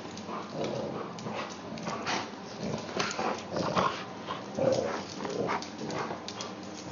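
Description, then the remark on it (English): Dogs growl and grumble during rough play, a steady rumble mixed with brief whiny yelps and scuffling, continuous for several seconds with no one talking. “He definitely growls.”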